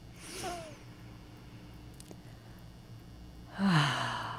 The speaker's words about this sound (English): So if you want, you can join me for a moment. Let's just take a nice big breath.